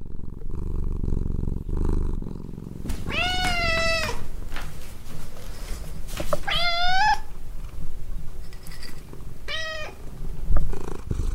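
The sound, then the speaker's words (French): A cat meows three times, long drawn-out cries at roughly even intervals, over a steady low rumbling purr that runs throughout, used as the station jingle of Libre Radio. Fairly loud, with no voices. “Libre Radio, la radio qui ronronne à ton oreille.”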